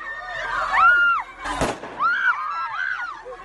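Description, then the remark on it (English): Afghan women protesters in the street shout slogans demanding work, bread and justice in loud, high-pitched, rising and falling bursts as Taliban guards attack them with water cannon and stun guns; a sharp bang breaks in midway and another sudden crack comes at the very end. “But as they shouted slogans demanding work, bread and justice, Taliban guards attacked them with water cannon and stun guns.”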